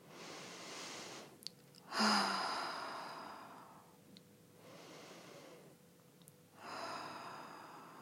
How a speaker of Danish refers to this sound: Og så starter vi med at tage et par dybe vejrtrækninger.